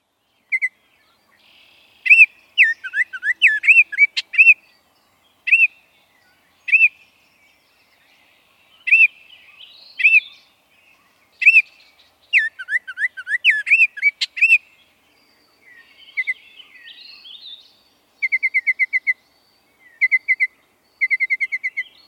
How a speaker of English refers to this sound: That brilliant song, along with the brilliant orange and black colors, announces the arrival of the Baltimore Oriole to our area each spring.